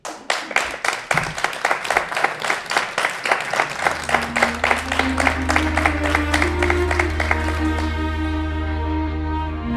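An audience at a live Radio 50 e Pico broadcast in Lugo applauds a guest, clapping in a steady, rhythmic unison beat, loud and crisp, while music swells in underneath about halfway through and carries on as the clapping fades.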